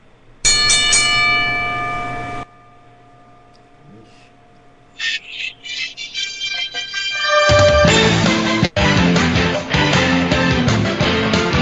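A single loud bell ring holds a bright, sustained tone for about two seconds before cutting off abruptly. After a pause, scattered tones lead into a loud, dense wash of sound.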